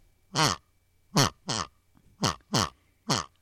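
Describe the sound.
In a studio, a voice imitates a pig with six short, throaty grunts in an uneven rhythm, each a brief harsh burst separated by pauses, fairly loud.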